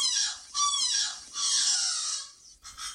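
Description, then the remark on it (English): A juvenile Hawaiian crow (alala) gives a run of raspy, squealing practice calls, several harsh, wavering bursts in close succession, loud, with no voices around it. “The juvenile birds can play with their vocalizations for a few years sometimes before they get the full adult expression of calls”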